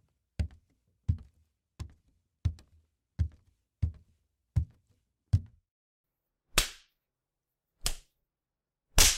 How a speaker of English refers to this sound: I just couldn't resist slapping the cute ass of yours.